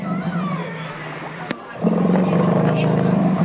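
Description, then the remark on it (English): A recorded elephant rumble, played by pressing a button on an elephant model in a University of Liverpool display: a low, droning rumble with a growly, harmonic tone, broken by a sharp click and a short pause before it returns louder and steadier. “Sounds like a roar. What is that? That's the Eva Grumble, the elephant.”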